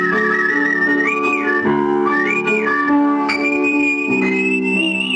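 A person whistles a tune clearly and melodically, with smooth sliding notes, over a steady instrumental accompaniment. No one speaks.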